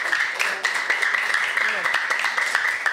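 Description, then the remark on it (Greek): Children clap steadily for the full three seconds to show their love for their teachers, a dense, continuous patter of many hands, with excited voices and cheers mixed in over the applause. “Με παλαμάκια πόσο πολύ αγαπάτε τους δασκάλους σας.”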